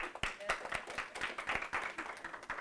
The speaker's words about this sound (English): You ought to give them a clap for that.